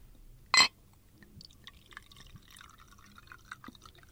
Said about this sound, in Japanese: よいしょ。 つぐ音が。